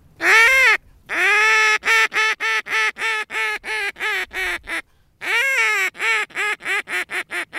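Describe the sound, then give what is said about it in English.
A wooden duck call, shaped like a primitive recorder without the mouthpiece, is blown: a long drawn-out quack, then a rapid descending run of short quacks, repeated twice with a brief pause, loud and with no talking. “He had a multitude of duck calls there, but he didn't claim to be an expert duck or goose caller.”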